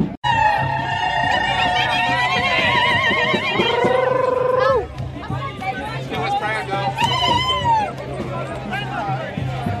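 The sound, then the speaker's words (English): A police horse lets out a long, loud, wavering whinny for several seconds, followed by further shorter neighs, over a constant background of crowd chatter and murmuring voices, as mounted police troopers in riot gear line up in Nimbin. “You'll record the horse charge as it happens, I hope.”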